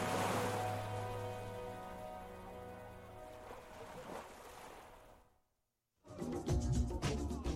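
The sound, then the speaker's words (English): A song's closing notes fade out to a brief moment of silence, then waves lapping on a palm beach at sunset come in as a steady wash of water that continues to the end. “Just the waves lapping and the sun setting on a palm beach”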